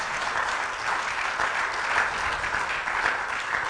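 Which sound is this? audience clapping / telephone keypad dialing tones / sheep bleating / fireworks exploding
audience clapping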